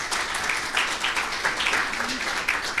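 An audience applauds a speaker at the end of a talk, steadily for about three seconds, a dense, even patter of many hands clapping at once without a break or fade.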